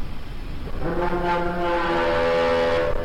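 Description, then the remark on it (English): A deep ship's horn blares in at about 7:30 in the morning, holding a long, steady low tone with rich harmonics over a background rumble, sustained loudly to the end. “That's a ship.”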